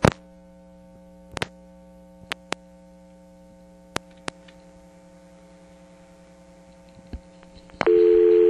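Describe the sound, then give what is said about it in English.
A steady, unbroken telephone dial tone hums on a payphone line, interrupted by a few sharp handset clicks, then jumps noticeably louder in the final half second. “Back to dial tone, of course.”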